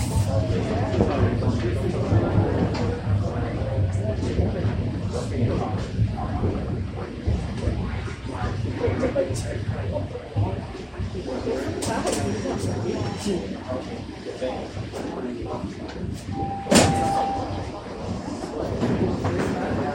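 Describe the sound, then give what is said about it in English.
A subway train rumbles loudly and steadily as it pulls into Davisville Station, with a brief tone sounding near the end and muffled voices underneath the roar; its doors open on the right. “Arriving at Davisville, Davisville Station. Doors will open on the right.”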